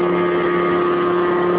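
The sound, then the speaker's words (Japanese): A flying platform's 210-horsepower engine roars steadily and loud as it lifts the large craft off, rising to 2 meters in front of spectators in a Japan–US contest; a continuous droning hum with a strong low tone and no voices, holding constant throughout. “210馬力のエンジンがその巨体を持ち上げました。”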